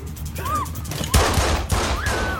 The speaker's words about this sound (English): Shoots one of the girls before being dropped by Brian. Come on! Don't! Come on! The pimp hears the shots from his office.